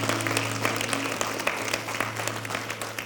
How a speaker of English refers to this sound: And give them a hand clap to the Lord for those that have responded to that. We thank you, Lord. Praise God.